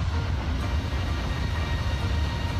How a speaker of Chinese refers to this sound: 这栋大楼的一边曾有火车从地下轨道通过，另一边有地上火车站。 On the other side, an elevated CSX above grade rail. 这时候我们就得控制火车带来的噪音，并且向游客介绍火车曾经是怎样穿过这栋大楼的。